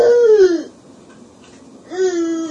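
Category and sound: human body sound, small child crying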